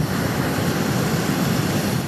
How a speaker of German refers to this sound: Mit einem Hebel über dem Korb schiesst der Pascal Stichflammen im Ballon, wo uns dann wieder ein bisschen Auftrieb gibt.